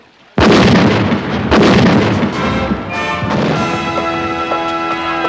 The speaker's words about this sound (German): Ein bisschen Kanonendonner wird den Eingeborenen von Anfang an Respekt einflößen. Backbordgeschütze, Feuer!